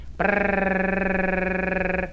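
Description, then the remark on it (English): A person makes a steady rolled-R trill, as in the word Cherokee, practising a little bird trill: a buzzy, rapidly fluttering tone held at one low pitch for about two seconds, with no talking. “Now then, some of your friends might think that you're off your rocker, but practice this to get the little bird trill.”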